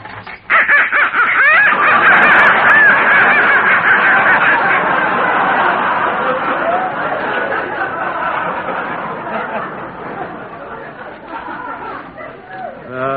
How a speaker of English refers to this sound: Now, look, that noise came from some live ducks I've got in the basement.